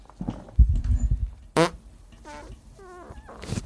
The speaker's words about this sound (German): Warte, ich muss kurz furzen.